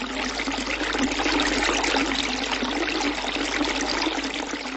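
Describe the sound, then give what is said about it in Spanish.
Water gushes steadily from a spring that springs up on the hill of Hostín near Bystrice, a continuous, fairly loud rushing and bubbling that holds an even level throughout with no voices. “La Virgen escuchó sus súplicas y en la colina brotó una fuente.”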